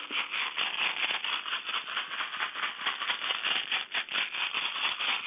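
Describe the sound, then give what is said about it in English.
Rattles shaken nonstop for about five seconds during an energy-healing session, a dense, rapid, hissing clatter with a steady rhythm and slight surges, sounding thin and tinny, heard over a phone line. “Just a few rattles here to go ahead, and anything that was cleared and cleansed so far out of that cranium area, out of that third eye, we're going to whisk it off of our energy bodies with these particular sounds.”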